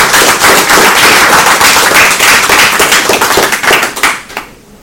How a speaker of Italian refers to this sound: Un applauso del pubblico di San Diego.